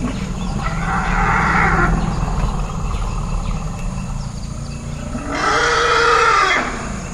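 Elephants circling and calling in an overlapping chorus, two loud bellowing blasts rising over a steady bed of deep, rumbling calls that continue throughout, with no one talking.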